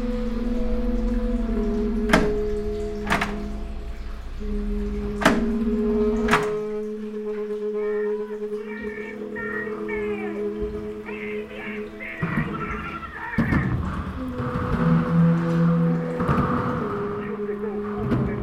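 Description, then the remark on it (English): A heavy fire exit door is pushed open: several sharp metallic clunks from the push bar and latch, then a low rumble and thump as it swings, over a steady background hum. “fire, push fire, exit, open.”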